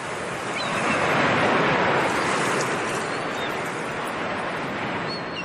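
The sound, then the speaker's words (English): Waves washing against the shore in a steady, continuous hiss of surf, even in loudness, with no voices and no distinct breaks between swells. “with sandpipers scuttling across the wet sand, a thin cloud floating in the clear sky, and the waves gently lapping the shore.”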